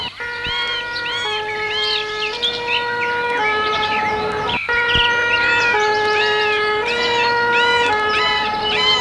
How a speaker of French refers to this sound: Elle entend les pompiers arriver.